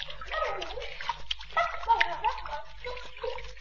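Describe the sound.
Children splash and dive into river water, a continuous noisy churn of sloshing and splattering over about three and a half seconds, with excited voices and yelps mixed in.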